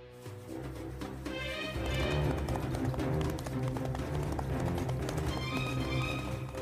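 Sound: horse hooves galloping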